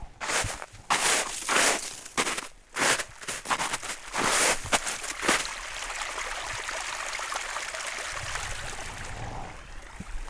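About a dozen heavy, crunching footsteps plod unevenly through thick, heavy snow in the valley below Jökelbäcken, on the way back to Kebnekaise mountain station. They give way to a steady rushing hiss of meltwater streams emerging under the snow. No one speaks.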